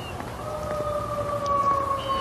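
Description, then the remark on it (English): A fire engine siren wails steadily as the fire engine goes around the block, a sustained two-tone howl that holds at a high pitch over a rumbling low background hum, with no one talking. “Listening to that fire engine go around the block.”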